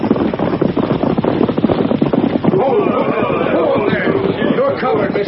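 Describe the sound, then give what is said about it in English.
Rapid, drumming hoofbeats of several horses ridden in with the sheriff riding in front, loud, a steady rush of beats throughout, with muffled voices rising under the clatter in the second half. “Here they come. It's all right. That's the sheriff riding in front.”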